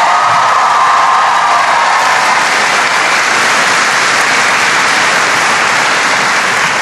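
A large crowd applauds steadily and loudly, a dense wash of clapping that fills the whole stretch, with a few faint cheers and whoops mixed in.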